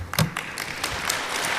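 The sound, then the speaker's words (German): Brief, sparse applause from an audience: a handful of scattered claps, fairly soft, fading into a thin continuous patter over about a second and a half, with no voices. “Und dann ist aber nicht so viel Applaus, wie wir erwartet haben.”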